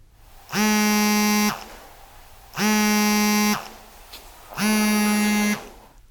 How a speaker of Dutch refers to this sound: Ik meende ook iets van dat ritmische, van het spinnen van die kat, terug te horen in die telefoon die overgaat. Want dat is ook een heel gek geluid natuurlijk, van een telefoon die op stil staat. En die helemaal niet stil is.